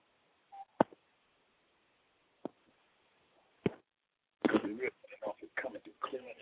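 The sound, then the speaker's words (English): A short, mid-pitched keypad beep as a listener pushes number one on a cell or house phone during a call-in line check, followed by a few sharp clicks spaced a second or so apart, then muffled telephone-quality talking. “For those of you who are on the line, if you don't mind, push the number one on your cell phone or on your house phone line and let us find out if the message or what we're speaking, talking to you, is coming through pretty clear.”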